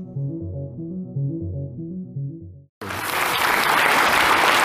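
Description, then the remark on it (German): A short tonal musical phrase with steady low harmonics plays, then cuts off briefly before loud, dense audience applause bursts in and continues steadily to the end. “Es endet mit Applaus und das ist ja auch mal schön.”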